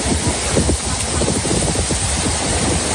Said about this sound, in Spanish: Así bajaba el río Foix a su paso por Cubells, en Barcelona.